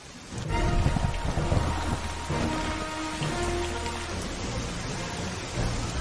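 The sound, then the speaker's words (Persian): Steady, fairly loud rainfall pours continuously throughout, a dense hiss of drops with a low rumbling undertone and faint sustained tones beneath, and no one speaking. “تو بارون نمیتونی پرواز کنی؟ میتونی تا بارون قطره پیش من بمونی؟”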